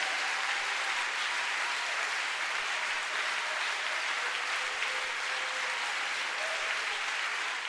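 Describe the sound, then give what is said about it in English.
Steady, dense applause from a large crowd fills the space, a continuous wash of clapping hands that holds at a moderate level throughout without fading or pausing. “Ça mérite les acclamations.”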